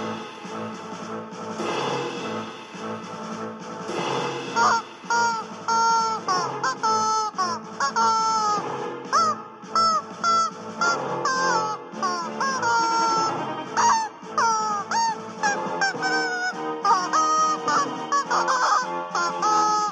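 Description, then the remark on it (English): Chickens squawk and cluck loudly and almost nonstop, the harsh, honking calls overlapping in quick bursts, with no speech. “This is a recording of my chicken fiasco”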